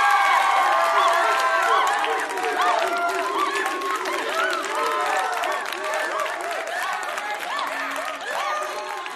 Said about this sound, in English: Aw, where's your crowd cheering thing?